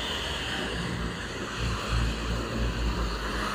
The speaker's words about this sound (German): Klingt wie ein LKW. Das sind so gepanzerte Truppendinger. Wow. In Wüstentarnfarben.